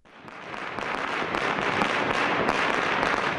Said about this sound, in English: Beijing welcomed in the Chinese New Year with pyrotechnics